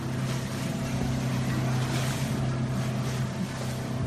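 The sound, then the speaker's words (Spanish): A motorboat crossing a river, its engine droning steadily, a low constant hum layered with rushing water and wind noise, with no one speaking. “La frontera entre ambos países la marca el río Orinoco y sus afluentes, y es más rápido cruzar río con una lancha que utilizar el coche.”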